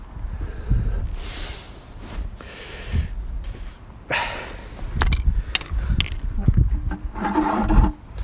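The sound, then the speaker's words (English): A dog snuffles and chews at horse hoof trimmings, with intermittent crunchy gnawing, sniffs and short snorts in an uneven rhythm. “my dog Harold here. He loves the toenails, horse toenails he loves”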